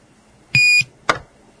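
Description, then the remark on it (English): A single loud, shrill electronic alert beep from a NOAA weather radio, recorded on a tape recorder at high volume, lasts about a quarter second, and a sharp click of a button being pressed follows moments later against a quiet background. “The second beep you will hear is the NOAA weather radio itself will come on.”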